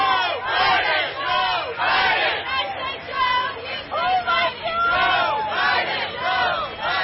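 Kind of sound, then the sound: crowd, parade crowd cheering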